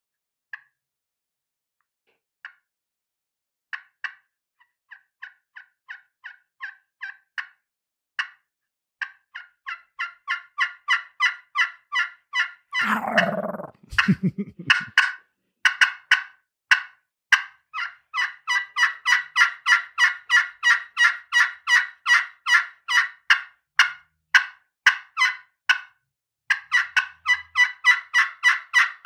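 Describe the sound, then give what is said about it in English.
Turkey hen calls made on a handheld turkey call, demonstrating the different sounds used in a turkey hunt: soft, sparse yelps build into rapid, steady runs of clucks and yelps, clear, with a brief lower rasping burst midway. No talking. “We'll just say the hen's waking up, and we'll just go through all the different sounds that, mm-hmm.”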